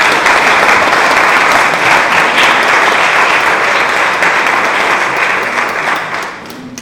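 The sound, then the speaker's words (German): Sustained applause from a church audience for a musical group, a dense, steady wash of many hands clapping at full volume, fading out in the last second with no voices. “Ich glaube, wir sind auf den Applaus wert.”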